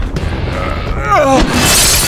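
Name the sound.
glass window shattering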